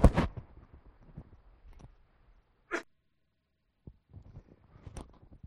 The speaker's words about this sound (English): How can I cough?